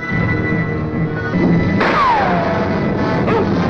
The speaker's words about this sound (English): Apaches appear on the ridge of a canyon. Lane rides slowly below them with his spare horse in tow. Sam walks with him. An Apache points a rifle at him and fires.